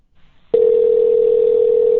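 A steady telephone dial tone, heard while redialing a call, starts abruptly after a brief quiet moment and holds at a constant, loud, unbroken pitch until the end, with no voices over it.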